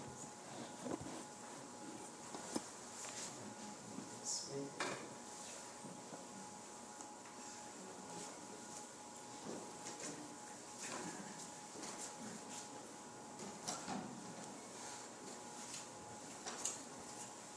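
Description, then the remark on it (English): Two chairs being carried and set down in front of the speaker during a church ordination service: a series of irregular wooden knocks and clunks, some sharper than others, with a faint steady hum and no talking. “I'm going to ask two people to help me bring two chairs in front of me here.”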